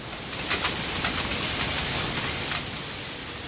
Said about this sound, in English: Yeah, I went to this waste management facility in Morrisville, Pennsylvania, which is just outside of New Jersey, to see their coin collection operation. They're separating coins from everyday trash. It's pretty loud in here.